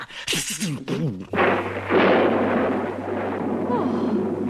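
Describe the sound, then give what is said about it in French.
A huge thunderclap crashes in after a brief wavering voice, then rumbles on loudly and steadily, a dense roaring thunderstorm torn by lightning, with a low hum beneath. “À cet instant, éclate un terrible orage, déchiré d'éclairs, ponctué par d'énormes coups de tonnerre.”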